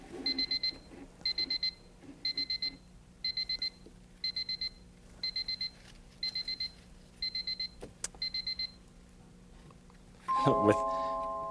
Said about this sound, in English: It sounds like an alarm clock. Is that sound coming from inside this suitcase? Maybe somebody left a clock in here. Wouldn't be in there.